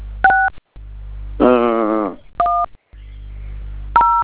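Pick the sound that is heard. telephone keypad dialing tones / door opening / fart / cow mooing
telephone keypad dialing tones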